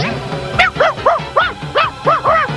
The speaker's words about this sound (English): Break out the sled dogs!